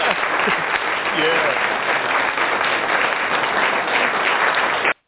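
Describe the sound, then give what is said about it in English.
A crowd claps steadily for about five seconds, a dense, even wash of applause with some voices mixed in, then it cuts off abruptly. “I know that was a short, short hand clap”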